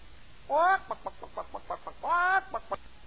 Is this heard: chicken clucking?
yes